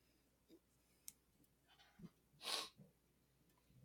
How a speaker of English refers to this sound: You just lean away to sniff. Yeah. The air. It's just easier than muting my mic, you know?